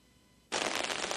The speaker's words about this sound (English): Well, there's rain on the umbrella I was holding. That's the crackling sound.